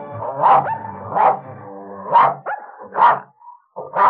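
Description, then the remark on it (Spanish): A dog barks five times in a loose, uneven rhythm, each bark loud, with brief whiny yelps slipping in between the barks, as it approaches. “Se ve que este perro que se acerca es un bandolero de verdad.”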